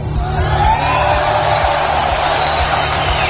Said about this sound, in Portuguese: E os nossos aplausos vão para...